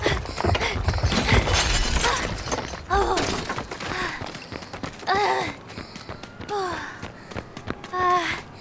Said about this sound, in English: Oh, come on. Cool dudes don't look at explosions.